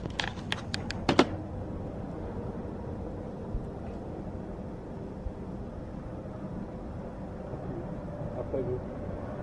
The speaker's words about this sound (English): We're sitting outside eating food, and there's so many trucks going by, it sounds like a good place to have sounds of the truck stop, and trucks passing the truck stop, and food being eaten.